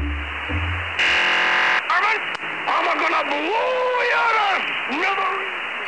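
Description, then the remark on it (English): A strange, tinny shortwave radio transmission, broadcast since 2004 from a transmitter in the New Mexico desert just outside Albuquerque: a harsh steady buzz for about a second, then warbling, rising and falling tones that sound like a distorted, unintelligible voice over constant static. “It may not seem like much, but a mystery lies deep within the sound of this radio transmission.”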